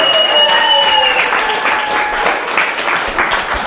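Steady audience applause, loud and dense, with many hands clapping continuously for a few seconds and a few sustained tonal notes ringing through at the start.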